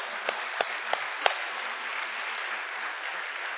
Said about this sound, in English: Amen? Amen. All right. Yeah. You can applaud that. Absolutely.